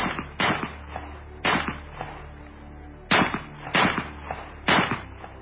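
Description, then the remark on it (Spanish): A rapid series of loud pistol shots, about six sharp cracks fired in uneven bursts, each with a brief ringing tail and a low background rumble, with no voices, as Yusupov empties his pistol into Rasputin's body in the palace gardens. “Yusupov, preso de la ira, preso del pánico acaso, cogió la pistola de nuevo y descargó todo el contenido sobre el cuerpo de Rasputín.”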